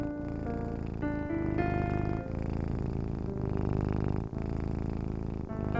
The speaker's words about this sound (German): Die kleine Zauberkatze Luna schnurrt.